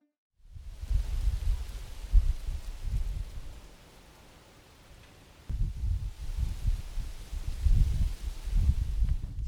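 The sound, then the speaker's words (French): A light wind gusts through tree leaves in La Garenne-Colombes, near Paris, in a steady rustling hiss with low rumbling surges, easing briefly in the middle before swelling again. No voices, just the outdoor breeze. “Ah, le bruit du vent dans les feuilles des arbres.”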